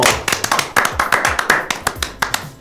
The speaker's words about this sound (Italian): E allora fatevi un applauso!